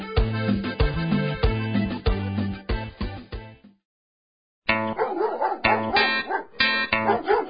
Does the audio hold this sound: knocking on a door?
no